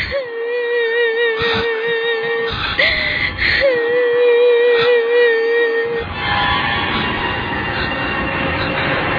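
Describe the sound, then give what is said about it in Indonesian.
In a lab, a woman wails and cries in two long, wavering moans, each held for a couple of seconds against a dense, eerie background that turns rougher and noisier toward the end. “Aku mendengar suara tangisan seorang wanita.”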